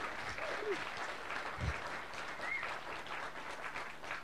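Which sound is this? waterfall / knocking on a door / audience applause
audience applause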